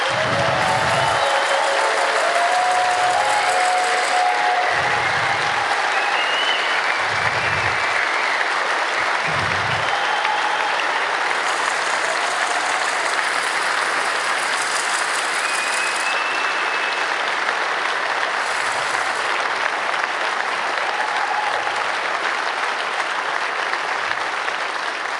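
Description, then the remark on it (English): Sustained audience applause at a congress for the streaming crew, a dense steady wash of many hands clapping for about twenty-five seconds, fairly loud throughout, with a few low thumps near the start and no talking. “I want a big round of applause for them because...”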